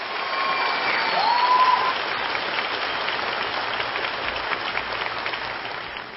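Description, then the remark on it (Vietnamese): Sustained audience applause for two singers after their song fills the space, a dense wash of clapping that stays steady throughout, with a faint whistle rising near the start and no one speaking over it. “xin quý vị một tràng pháo tay thật lớn.”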